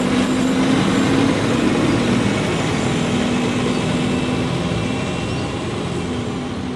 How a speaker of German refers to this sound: Und hier seht ihr die Ausfahrt der Vogtlandbahn und das Bahnhofsgebäude.